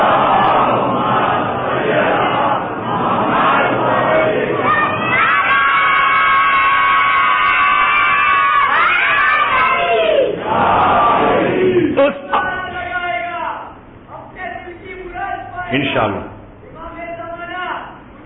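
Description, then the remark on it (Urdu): A large crowd chants religious slogans in loud, sustained unison, with a leader calling out and the mass of voices answering in rhythmic, surging bursts that rise and fall toward the end. “انشاءاللہ یہی نعرے بچوں کو بتاؤ کہ یہی علی کی سفارش ہوگی, ریکمنڈیشن ہوگا تو ہم جنت میں جائیں گے.”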